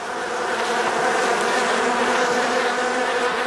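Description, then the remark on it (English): A steady, dense drone of many bees buzzing, a continuous swarming hum that holds at an even loudness throughout with no voices. “Real bees, real birds, and the possibility that they are in real trouble.”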